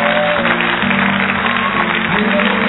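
An audience cheers and shouts acclamations to the Lord in a dense, steady roar of many voices, with a sustained low musical tone running underneath throughout.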